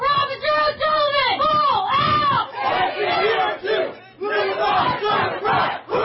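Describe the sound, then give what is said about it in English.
A group of police officers chants loudly in unison at a vigil in Sacramento in honor of Officer Tara O'Sullivan, voices rising and falling in a steady rhythmic cadence with short pauses between repeated shouted phrases. “At her vigil, fellow officers chanted in her honor.”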